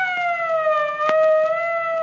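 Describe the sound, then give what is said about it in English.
A police car siren wails loud in one long, steady tone that sags slightly in pitch, with a few faint clicks underneath and no voices. “He's where the cops come in.”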